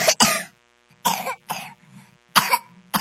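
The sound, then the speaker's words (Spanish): A harsh, barking whooping-cough fit, popularly likened to a dog's cough: about six loud bursts in uneven clusters, with strained, raspy breathing between them and no talking. “Pero popularmente se dice que la tos es como una tos perruna y los niños particularmente afectados pueden llegar a tener alguna complicación respiratoria que sí los puede llevar a la muerte.”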